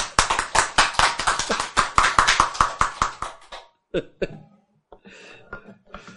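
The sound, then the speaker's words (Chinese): An audience at a Buddhist lecture, asked to clap, breaks into brisk, loud applause, with many overlapping claps for about three and a half seconds before it stops, followed by a few brief voices and soft laughter. “这样赞不赞？拍手。”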